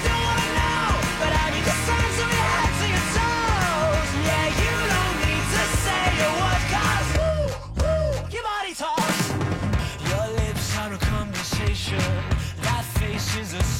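A loud, dense rock track with screaming vocals and heavy full-band instrumentation, playing continuously with a brief drop-out in the middle before it surges back in.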